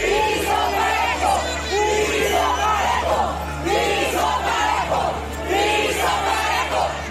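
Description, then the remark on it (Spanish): A group of protesters shouts in unison at Sheinbaum as she arrives at the Morena National Council meeting, demanding a level playing field ("piso parejo"), their loud chanting voices rising and falling in rhythmic bursts over a steady crowd roar. “Este domingo, cuando llegó Sheinbaum al lugar de la reunión del Consejo Nacional de Morena, un grupo de manifestantes le gritó que querían piso parejo.”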